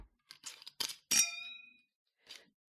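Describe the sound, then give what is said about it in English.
Glasses clink together in a toast: a few light taps, then one bright, ringing clink that slowly fades, and a last soft clink. Fairly quiet, with no voices. “You know, cheers.”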